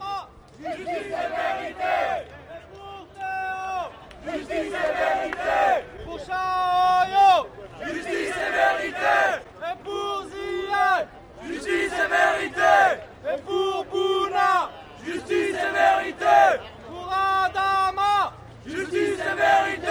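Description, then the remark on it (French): A crowd chants in unison, loud repeated phrases in a steady rhythm, each burst of many voices followed by a short pause, at a rally in Toulouse on 31 March in support of the family of Xiaoyou Liu, who was shot dead at his home. “Ce 31 mars dernier, il y avait un rassemblement à Toulouse en soutien à la famille de Xiaoyou Liu”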